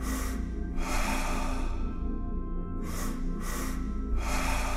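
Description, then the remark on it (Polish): A series of audible in-breaths taken in short stages during a breathing exercise, the air filling the belly and then the chest: a longer draw followed by several quick sniffing steps, over a steady low background hum. “Albo skokowo.”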